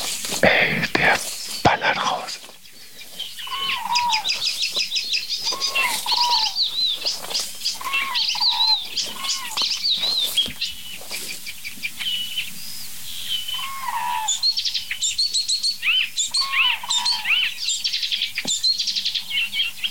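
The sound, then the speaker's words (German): A songbird sings a rapid, varied song of chirps, trills and whistled notes, continuing almost without pause, with a few brief clicks and rustles early on. “Alles ein Vogel.”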